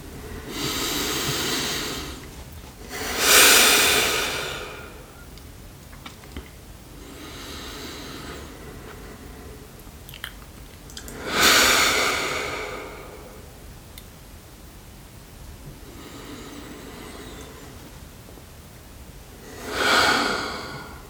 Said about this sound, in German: Und genau, und bevor ich jetzt einmal gonge, nehmen wir einfach irgendwie so drei tiefe Atemzüge gemeinsam.